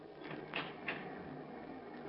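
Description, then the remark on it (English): A door opens quietly, with two short scraping, rattling bursts close together over a steady low hum. No one speaks. “The door hasn't changed a bit.”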